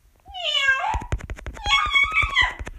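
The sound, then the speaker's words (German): A voice imitates a cat, giving two drawn-out, wavering meows, with a rapid series of sharp clicks or taps running underneath the second one. “Miau! Miau! Miau! Miau! Wie mein Bruder so gern sagt.”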